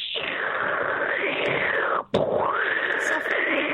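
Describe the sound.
A voice imitates rain with a loud, continuous hissing roar that rises and falls in pitch, breaking off for an instant midway before resuming just as harsh and forceful.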